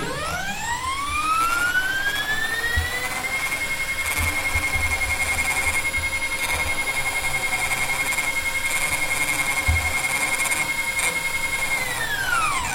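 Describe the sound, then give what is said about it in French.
A high electric motor whine spins up over a few seconds, holds a steady pitch for about nine seconds, then winds down, heard alone: a telescope's movement motors, first the declination motor and then the right ascension motor. “Ce qu'on vient d'entendre là, c'est le bruit des moteurs de mouvement du télescope.”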